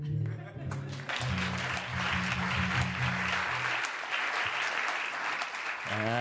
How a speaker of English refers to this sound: Ladies and gentlemen, once again, it's Michael Feldman. It is? Where? Oh, that usually draws applause.